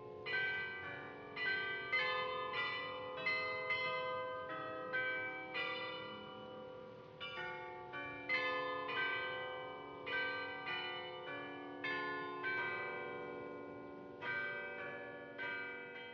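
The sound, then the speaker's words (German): A castle carillon plays a steady melody, its bright bell tones ringing out one after another in a regular rhythm, each strike blending into lingering overtones, with no voices present. “Jetzt haben wir eben eine interessante, nette und wirklich bekannte Melodie gehört. Ja. Und zwar das Glockenspiel hier vom Schloss.”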